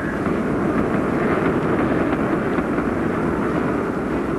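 A deep, steady roar of the Saturn V rocket launching the Apollo 11 astronauts to the moon from Cape Kennedy, Florida, fills the scene, a loud, continuous rumble heavy in low frequencies with crackling texture, unbroken and unchanging, with no voices.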